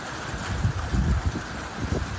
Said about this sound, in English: That was some of that hail that moved in earlier. This was video of the hail coming down up in the Oakland Hills around 1 o'clock this afternoon.